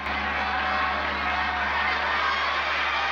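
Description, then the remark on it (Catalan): A dense, steady roar of a large crowd gathered outdoors around a stadium where a tournament's final fights are held, many voices blending into a continuous wash of chatter with occasional shouts, loud throughout. “Una gentada envolta el recinte.”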